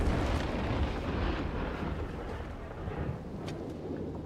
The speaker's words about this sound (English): Thor blasts into sky with hammer and lightning, breaking ice wall.